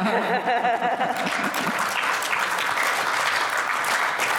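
An audience votes by applause for which draft is the winner, with dense, steady clapping that holds at a fairly loud level for the whole stretch, with a few voices cheering over it near the start.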